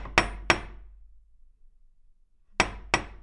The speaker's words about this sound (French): C'est alors que l'on frappe à la porte de sa chambre.